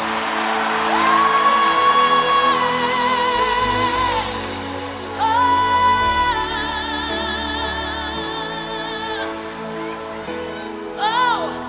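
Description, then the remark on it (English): An audience shouts and whoops together in loud, sustained bursts, responding to a call to shout the name Jesus, with long held cries rising over a dense crowd roar that swells twice and fades near the end. “Come on, scream his name into the nation. Respond, somebody.”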